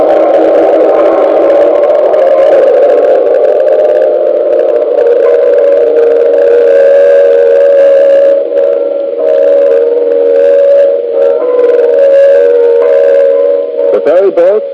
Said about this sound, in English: Cars, Chinatown, the mission bells, the traffic roar of a great city, truly a rhapsody in sound. San Francisco by the Golden Gate, always colorful, always gay, always hospitable.